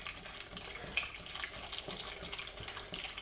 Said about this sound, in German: So, das heißt, ich haue jetzt hier ein bisschen Apfelsaft rein.